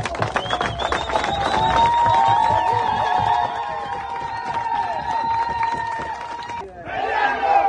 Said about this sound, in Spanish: Los ciudadanos gritaban consignas contra la minera y pedían la salida del país de la empresa en un ambiente de tensión.